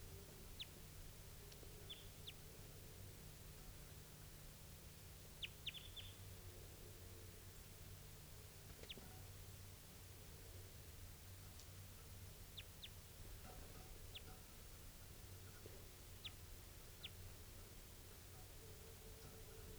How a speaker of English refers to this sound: Interesting variant in type 2. Stop. So recording here is that same type 2 bird, wild bird.